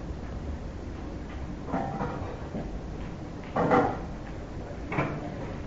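Cabinet doors open and shut a few times at uneven intervals as someone searches them, with soft knocks and one firmer thud in the middle, against a quiet room hum.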